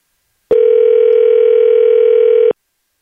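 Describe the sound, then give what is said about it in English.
A single steady electronic phone ringing tone sounds for about two seconds, loud and clear with no one talking, then cuts off abruptly into silence. “Oh, it's ringing. That's a good sign.”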